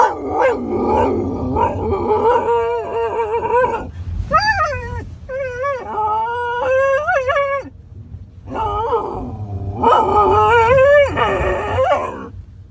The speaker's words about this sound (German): Oder eben, wie man jetzt gerade gehört hat, so ein Theater macht. Anbellen kann man das ja gar nicht nennen. Das macht er sonst eigentlich gar nicht, aber den hat er gefressen sozusagen.